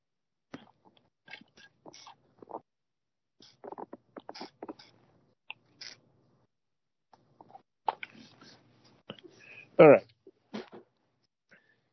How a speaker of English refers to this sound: I'm going to take a sip of water and then we'll continue on.